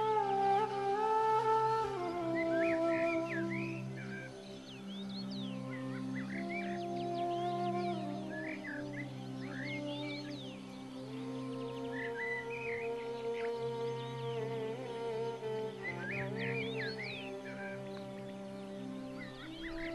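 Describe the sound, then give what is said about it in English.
Birds chirp and tweet in scattered bursts in the early morning in a mountain village, bright and layered over a steady, sustained musical backdrop of low held tones. “Early the next morning, I awoke to the beautiful sound of birds.”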